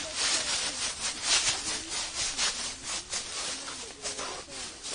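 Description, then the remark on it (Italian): Footsteps crunching through dry leaves make a steady, irregular crackling rustle with brighter bursts at each step, fairly loud and with no voices throughout. “Fammi sentire il rumore dei passi sulle foglie.”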